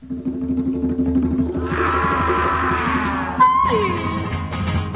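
The instrumental opening of a Spanish song released in 1970: a steady low rhythmic pulse carries throughout while a growling, roar-like sound swells in the middle, followed by a bright sliding tone near the end.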